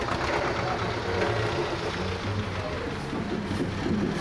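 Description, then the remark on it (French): A farmer's tractor engine runs steadily, a continuous low rumbling drone with a rough, slightly knocking texture that holds constant throughout without pauses. “Merci de nous accueillir et dans ton char, dans ton tracteur.”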